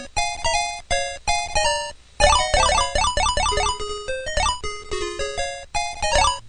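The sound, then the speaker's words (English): Frogger video game sound effects: bright, buzzy electronic notes in a quick chiptune melody, with short repeated beeps, a brief pause, then a busier run of rising and falling tones. No talking. “That's the worst video game ever. It's the best. Which is Frogger.”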